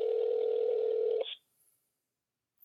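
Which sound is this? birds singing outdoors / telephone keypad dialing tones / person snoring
telephone keypad dialing tones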